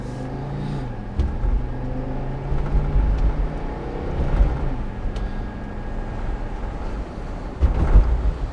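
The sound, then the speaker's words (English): A car engine hums and revs steadily from inside the vehicle as it pulls out into city traffic at about a quarter past one in the morning, near 12th Street, heading toward the Lincoln Tunnel, with a few sharp clicks and knocks and some low road rumble throughout. “And trying to pull out in traffic here.”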